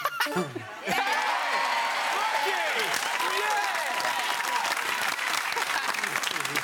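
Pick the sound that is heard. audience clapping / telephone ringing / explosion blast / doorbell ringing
audience clapping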